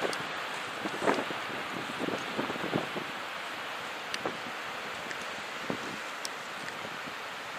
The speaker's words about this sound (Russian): Я сейчас плечами прикрываю камеру от ветра сильного с той стороны.